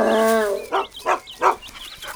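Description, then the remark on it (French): Toby, the farm dog, lets out a drawn-out whining yelp, then barks three times in quick succession, loud, with no voices around it. “C'est Toby, le chien de la ferme. Il aboie fort, mais il est très gentil.”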